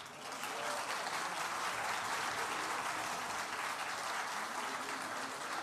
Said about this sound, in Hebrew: אני רואה לפי מחיאות הכפיים שאהבתם את החזן בן ה-25.